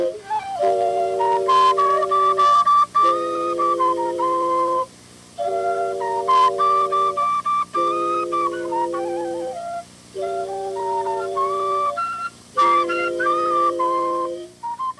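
A wooden flute, played by a man in the water, plays a slow melody of long, sustained notes in phrases broken by short pauses, steady and fairly loud over a faint low hum, with no voices.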